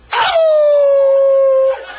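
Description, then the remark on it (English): A person imitates a wolf howl: one long, loud, sustained wail that starts with a breathy burst and slowly slides lower in pitch before cutting off, alone. “And the Lord said, if you won't howl for me, howl like a wolf, howl for me and you.”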